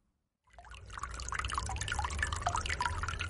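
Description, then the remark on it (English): Steady bubbling and trickling of water from a small fountain in Fenter's office, continuous, with a low background hum and no voices. “Water bubbles from a small fountain opposite.”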